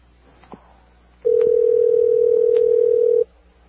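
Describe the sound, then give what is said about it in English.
A single loud, steady ringback tone from a live, unedited outgoing phone call to a woman hums for about two seconds, preceded by a faint click, with no voices. “So this is live, unedited, is why you hear the ringing.”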